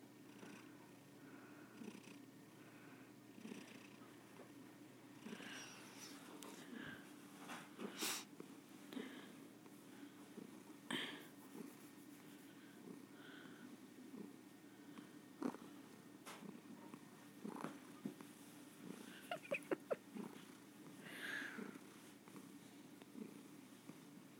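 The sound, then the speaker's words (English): A cat purrs steadily, a continuous low rumbling throb with occasional soft sniffs and small clicks over it, and no talking. “You're purring away like you haven't got a care in the world.”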